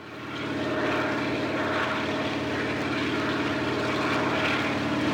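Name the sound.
helicopter in flight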